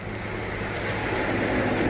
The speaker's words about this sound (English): Just wait a second for that car coming on there.